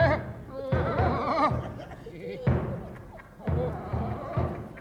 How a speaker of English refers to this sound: Look, it's a military gentleman walking up the line banging a drum. You English are so musical.